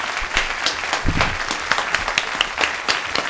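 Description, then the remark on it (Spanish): A room full of people applauds steadily to welcome members of the Asociación Cultural Andaluza de Aldaya, many overlapping claps forming a dense, continuous patter with a few sharper individual claps standing out, moderately loud. “Un aplauso para todos ellos, por favor.”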